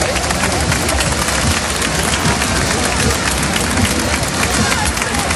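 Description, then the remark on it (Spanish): Loud, sustained applause from a large crowd at a military parade in Spain, a dense wash of clapping mixed with cheering that holds steady throughout without pause. “Aplausos y vítores que contrastan en gran medida con la pitada que se ha llevado el presidente del gobierno, Pedro Sánchez, tanto a su llegada como a su salida.”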